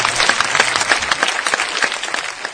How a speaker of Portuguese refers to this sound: Abbas Kiarostami recebeu a medalha Fellini de Ouro da Unesco por seu trabalho no cinema retratando a paz, a liberdade e a tolerância, pelo amor de Deus. Aplausos para...